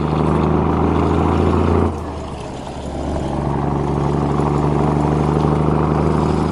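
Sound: car driving past slowly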